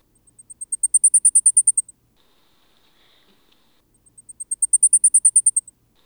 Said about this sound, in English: The blackpoll warbler is common at high elevations and is one of the mountain birdwatch target species. Remember that it sings most forcefully at the middle of its song.